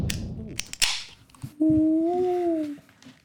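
bird, peacock call

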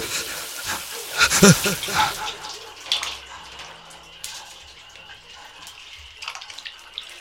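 household object, shower water running

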